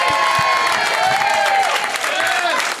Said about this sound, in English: Everyone feels so bad for me. They cheer so hard when I get anything right.